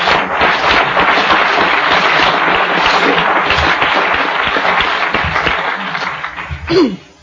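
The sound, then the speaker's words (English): An audience applauds the people who organised the event steadily for several seconds, a dense wash of many hands clapping at once, loud and sustained before fading slightly as a voice briefly cuts in at the end. “So I think we ought to give a nice round of applause to the people who invited me here and who made it possible for all of us to be here, huh?”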